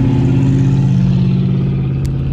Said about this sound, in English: I like to think of myself as a careful driver. And of course, you know, I'm driving, y'all. So, you know, you might hear a little bit of engine.